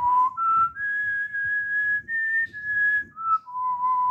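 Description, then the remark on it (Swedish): A clear whistled melody of sustained, steady notes that step up and then back down, fairly loud with a soft low rumble underneath. “Ja, vi tar först lite på visslingen.”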